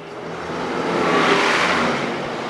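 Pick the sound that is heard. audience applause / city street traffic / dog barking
city street traffic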